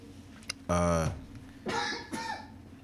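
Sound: person coughing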